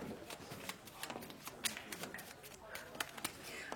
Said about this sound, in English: Yes, yes, but don't tell me, Pishik. Shuffle the pack.